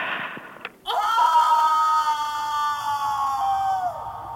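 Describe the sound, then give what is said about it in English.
A person imitates a scream: after a short breathy intake, one loud, sustained, high-pitched shriek holds a steady, strained pitch for about three seconds before cutting off. “I don't know if I can do that scream.”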